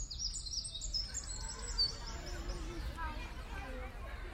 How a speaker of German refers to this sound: Nummer 1. Der Zaunkönig. Mit seinem braunen Federkleid ist er leicht zu übersehen und er ist einer der kleinsten Vögel. Aber er ist in der Kleinvogelwelt mit der markanteste Sänger.